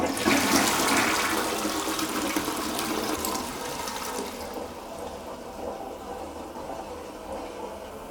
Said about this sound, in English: Just a flush, just constantly the flush.